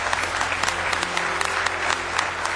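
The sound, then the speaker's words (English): An audience claps hands together in praise of the Lord, in steady, dense applause, loud and sustained throughout, with a faint low hum of crowd noise underneath and no voices standing out. “Give him one more big hand clap of praise tonight.”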